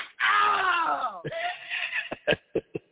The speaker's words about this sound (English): What's this one? This one says slapping.